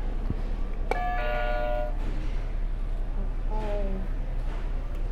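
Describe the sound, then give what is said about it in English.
A game buzzer is hit: a bright electronic chime rings out with a sharp onset and sustained harmonic tones for about a second, then a shorter descending tone follows, all over a steady low hum and background noise. “Do you wanna hit one of the buzzers? Hit whatever one you want.”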